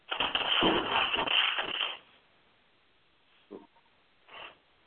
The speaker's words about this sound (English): Yeah, I'm getting somebody's rattling some paper or something. So. Someone needs to mute their line, please.